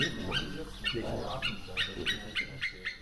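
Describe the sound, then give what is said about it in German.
A dog gives a quick run of short, excited barks and yelps as it is being put on its leash, repeating several times in rapid succession. “Oh, der Hund kriegt schon seine Leine.”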